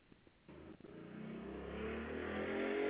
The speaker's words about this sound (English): Sorry, I just had a motorbike go past.